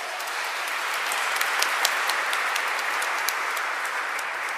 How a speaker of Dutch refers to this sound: Als die heldhaftigheid geen aureool verdient, voor Joris en een applaus.